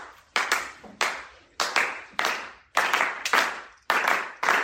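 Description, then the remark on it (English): Hands clap out a repeating syncopated rhythm, sharp bright claps falling in quick pairs separated by short gaps, about a dozen in all, with no voices. “First thing, if you have a hand free, clap this rhythm.”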